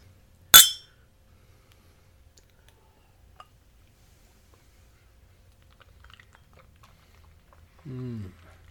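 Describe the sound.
A single sharp glass clink rings out near the start as a chilled glass of bourbon is handled and held by its base, followed by a long quiet stretch with faint handling ticks, and a brief voice sounds right at the end.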